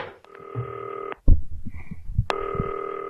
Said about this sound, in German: Es klingelt. Ich leg den Hörer mal beiseite.